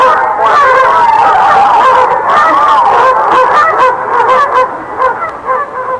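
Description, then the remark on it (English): A duck honks loudly and continuously in rapid, overlapping calls, with the racket thinning slightly toward the end as if the bird is moving off. “Fly away, Duck.”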